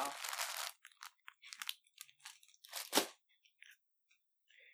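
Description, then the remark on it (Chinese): Crisp crunching of communion wafers being chewed while taking Holy Communion: an opening long crackly burst, then a run of short, irregular snaps and crackles, one louder crunch near the end, fading to faint ticks. “我们预备我们的心呢，来薄饼，来领圣餐啊”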